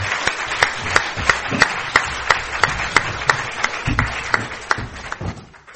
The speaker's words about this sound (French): Et d'abord, un très très grand merci à nos trois intervenants. Je crois qu'on peut les applaudir.